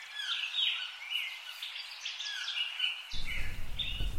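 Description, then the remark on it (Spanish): A lark of a rare, endangered species sings a continuous, high, warbling song of rapid trills and chirps, steady throughout; partway through, a low wind-like rumble rises beneath it. “En esos páramos casi yermos, zonas muy llanas, con vegetación, pues matorrales y arbustos de pequeño porte, y es el hábitat idóneo de esta especie de alondra tan singular.”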